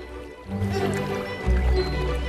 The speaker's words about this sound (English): While the post office workers get on with some much-needed pre-winter maintenance, the chicks are beginning to discover a new element. Water. One chick tentatively dips its beak in the water's edge.